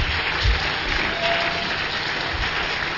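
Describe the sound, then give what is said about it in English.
An audience at a religious gathering claps for Jesus after a prayer, steadily and loudly, a dense wash of many hands applauding at once, continuous for the whole moment with no voices breaking through. “Let your clap be loud.”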